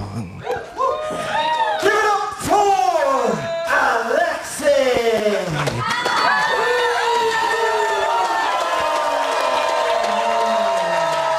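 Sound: crowd cheering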